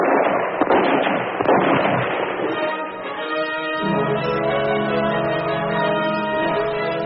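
A quick volley of loud, sharp rifle shots, fired at a rider fleeing on a sorrel horse along a riverbank, cracks out over the first couple of seconds, the rounds landing in the water, then gives way to a steady, humming tone with no voices.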